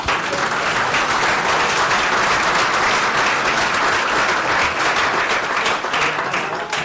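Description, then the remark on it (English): Sustained applause from a conference audience welcoming a speaker in the Community Dev Room, a dense, steady wash of many hands clapping at an even loudness for several seconds, with no one talking over it. “And without further ado, may we have a round of applause to welcome”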